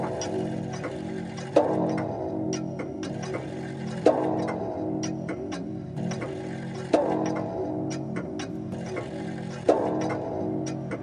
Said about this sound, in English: And anon, there strikes the ebony clock which stands in the hall of the velvet. And then, for a moment, all is still and all is silent save the voice of the clock.